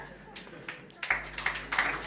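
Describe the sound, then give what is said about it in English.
A few scattered, faint hand claps from an audience in the morning, with a low murmur and a steady low hum underneath. “Don't clap yet, because I'm not quite done.”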